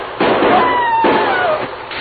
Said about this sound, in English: Oh, that was close. It must have sounded like the real thing. Only one man fired, Dan. And I'm sure it wasn't McLean.